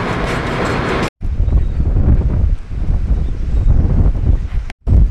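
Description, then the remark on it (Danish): Strong wind roars steadily at the coast at Egernsund, with heavy low-pitched buffeting and rushing noise on the microphone, broken only by two brief dropouts. No one speaks. “Så er jeg kommet til Egernsund, og jeg må nok sige, at det blæser lidt mere, end jeg havde regnet med.”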